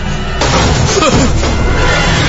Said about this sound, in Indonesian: pintu dapur yang menuju arah gudang terbuka, terbanting sendirinya dengan keras.